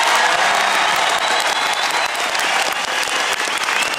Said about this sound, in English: And a huge round of applause, many people with their hands in the air now, applauding that.